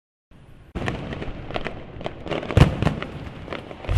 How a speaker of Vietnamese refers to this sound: Thời khắc chuyển giao giữa năm cũ và năm mới, pháo hoa bừng sáng trên nền trời, tất cả đều đắm chìm vào không gian đầy màu sắc của pháo hoa trong đêm giao thừa.